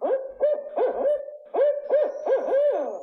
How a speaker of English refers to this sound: Any outdoors person in Minnesota, Wisconsin, or across the region can recognize the distinctive call of one of our native birds, the barred owl.